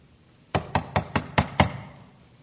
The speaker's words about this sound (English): Somebody is at the door today. Would you please look at me for just a minute and watch his position. Number one, his position. He's at the door, knocking.